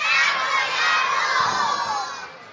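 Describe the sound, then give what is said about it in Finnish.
A large group of children in an audience shouts loudly together, calling out the names Saku and Ruut, in one sustained, bright roar that holds steady for a couple of seconds before trailing off slightly at the end. “Mitäs jos kokeilette huutaa oikein lujaa?”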